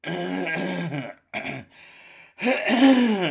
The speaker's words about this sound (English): maybe I'll just do that for 20 minutes. It's just clear my throat.